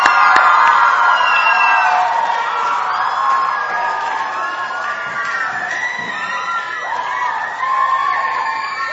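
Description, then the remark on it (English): A church audience claps for God after a worship song, erupting in loud, sustained cheering and applause, with high whoops and shouted voices rising over a dense crowd roar that holds steady for the whole stretch. “Can we just clap for God?”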